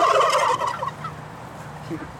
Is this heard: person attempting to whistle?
no